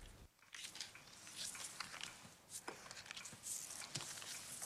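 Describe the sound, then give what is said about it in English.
Playing cards being dealt onto a table in a kitchen, one card to each of several women, a quick series of soft, crisp slaps and slides, with no one talking. “She deals one to each of the women.”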